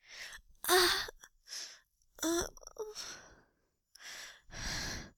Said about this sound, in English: I'm breathing harder now. Just a little bit, not too much. This is the secret to making audios feel more real.